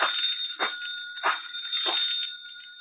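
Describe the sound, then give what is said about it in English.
A telephone bell rings continuously for about three seconds, a bright, shrill metallic trill with a steady high tone and three rhythmic pulses of louder clatter. No one speaks. “I think that's your phone.”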